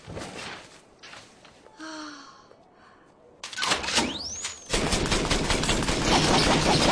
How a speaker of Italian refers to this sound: Sta sparando con un cannone di luci.